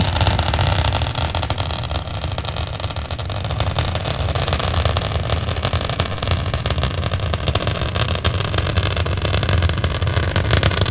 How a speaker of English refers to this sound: Seconds into the flight, Atlantis's three liquid fuel main engines now throttling back in a three-step fashion to 67% of rated performance. That will dampen the stress on the shuttle's aero surfaces as it breaks through the sound barrier.